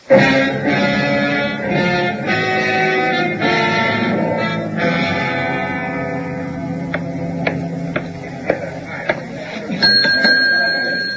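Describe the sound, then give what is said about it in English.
A bell is rung near the end, giving a bright, sustained ringing tone after a few sharp taps, heard over a busy background of music and murmuring. “That's why I rang the bell.”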